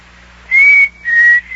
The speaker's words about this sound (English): Hey, what was that? What was what? Did you hear a whistle? It sounded like a signal.